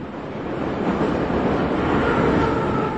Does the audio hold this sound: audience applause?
no